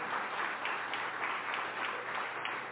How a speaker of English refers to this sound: Y'all definitely should clap for that. Thank you.